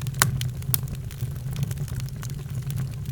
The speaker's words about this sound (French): Ça crépite, ça brûle si on s'approche, c'est du feu. Il est tout à fait déconseillé de s'approcher des flammes, même pour les écouter de près.